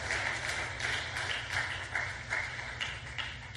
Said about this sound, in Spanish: Dale una ofrenda de palmas al Dios de la gloria.